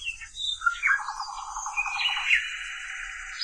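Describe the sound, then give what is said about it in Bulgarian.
A nightingale sings, a lively run of varied whistles, chirps and a buzzy trill for a few seconds, with no voices around it. “Славечето ми отговори.”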